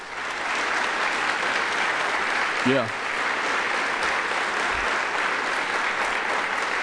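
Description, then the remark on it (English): Steady, sustained clapping from a sizable crowd at Northlake Church, honoring a staff member's 30 years of work for the church, fills the whole stretch, dense and even, with a single brief voice saying a word partway through. “And you see, people know when to applaud, don't they? You don't even have to tell them when to applaud.”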